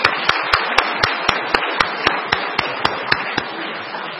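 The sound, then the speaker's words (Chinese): An audience at a church Father's Day service applauds the fathers, who stand and turn to face the audience. The clapping is a dense wash that runs for about four seconds, with sharp individual claps standing out in a steady, even beat on top. No one speaks. “好，请大家鼓掌。”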